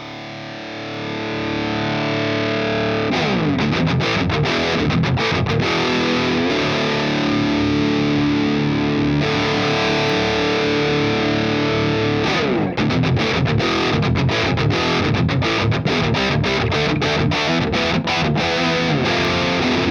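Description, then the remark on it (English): Loud electric guitar through a Revv G4 high-gain distortion pedal, ringing chords broken by bursts of fast, tight palm-muted chugging. It's heavy and saturated, played alone with no voices. “Again, this is the Rev G4.”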